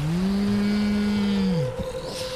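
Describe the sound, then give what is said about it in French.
Someone voices the character Kratak's thunderous roar, so loud it bursts like a thunderclap: one long, low, loud bellow held steady for about a second and a half before sliding down and breaking off into a rough rumble. “alors que tu t'avances de Kratak, tu le vois hurler tellement fort que ça fait une détonation de tonnerre, comme un espèce de coup de tonnerre qui fait...”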